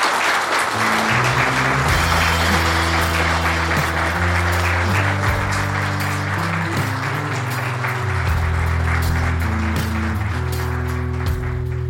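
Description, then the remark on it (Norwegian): An audience applauds the guests steadily and loudly for about twelve seconds, the dense clapping running over a sustained musical backing with shifting held tones. No one speaks. “Inntil da så sier jeg rett og slett ha det bra, så kan vi kanskje få en applaus for gjestene her.”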